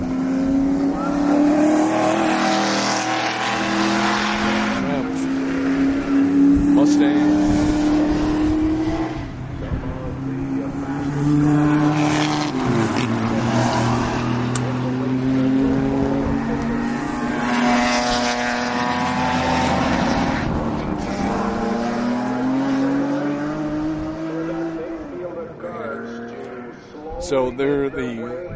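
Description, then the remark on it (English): Loud race car engines drone continuously as the field circles the track behind the safety car, their pitch rising and falling as the cars sweep past in waves, overlapping one another with a steady, rumbling roar. “Safety cars leading around the track. As soon as he peels off, they'll be blasting by here.”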